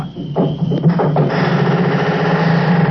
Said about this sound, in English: Huh? There it is again. That's a barn door. That's what it is. I'd know that squeak anywhere.